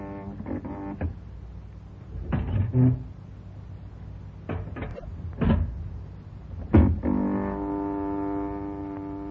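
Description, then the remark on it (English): An elevator door clanks and rattles open just a crack in a series of sharp mechanical knocks, then a steady machine hum drones on, moderately loud. No one speaks. “He did open the door just a crack.”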